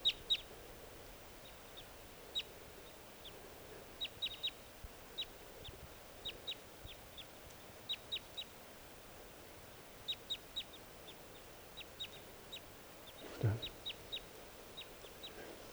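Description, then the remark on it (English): Newly captured decoy birds calling beside a bird-trapping net: a steady stream of short, high-pitched chirps repeating in loose clusters over a constant background hiss, with one brief low thump late on. “Okay, the new birds are calling.”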